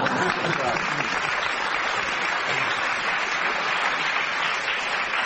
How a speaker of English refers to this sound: But a much bigger applause for Frederick Harvey's beautiful verse.